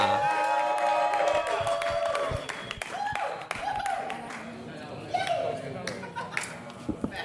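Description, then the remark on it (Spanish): A comedy show audience applauds a comedian coming on stage with dense, continuous clapping, mixed with cheers and whoops rising above it. The applause stays loud and steady for several seconds. “Fuerte aplauso para Alex Profeta.”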